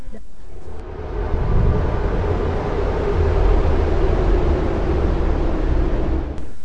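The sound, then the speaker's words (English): Wind blows in a chimney: a steady, hollow rush drones on for several seconds, a deep low rumble beneath a broad hiss, swelling slightly and then cutting off. No voices are present. “Some nights the old man wakes up and then says, "It was only the wind in the chimney."”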